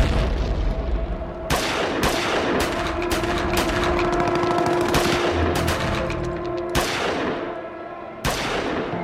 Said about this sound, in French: Dans la nuit du 10 au 11 janvier 1975, une explosion se fait entendre, des coups retentissent, l'assaut est donné.